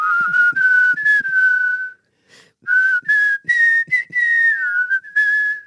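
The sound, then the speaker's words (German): Two people whistle a tune together in unison, clear, with sliding sustained notes. A short pause splits the melody into two phrases, and no one speaks. “ich wollte als Kind immer morgens, und das ist ganz toll, von dem Pfeifen von”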